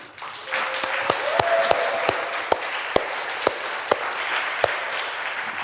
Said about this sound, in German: Das ist ganz großartig. Nur so funktionieren solche Veranstaltungen. Also da einen ganz, ganz großen Applaus mal bitte dafür.